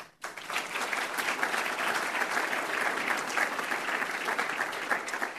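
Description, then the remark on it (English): Steady audience applause for a dedicated team seated at a table fills the whole stretch, a dense, even patter of many hands clapping at a constant loudness with no voices rising above it. “So hopefully the folks at that table realize the applause is for you.”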